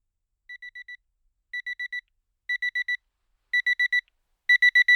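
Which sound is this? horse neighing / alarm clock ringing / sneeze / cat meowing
alarm clock ringing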